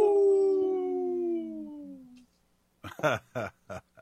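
wolf howling

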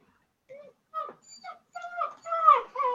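dog whimpering

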